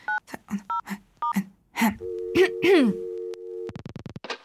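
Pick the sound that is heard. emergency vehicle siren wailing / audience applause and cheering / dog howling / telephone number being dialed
telephone number being dialed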